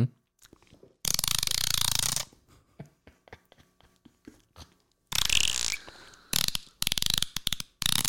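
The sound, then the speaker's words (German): A person imitates a dolphin with bursts of rapid clicking and chattering, interspersed with loud, harsh high-pitched squeals, pausing between several outbursts. “Brutal, das hört sich echt an wie ein Delfin.”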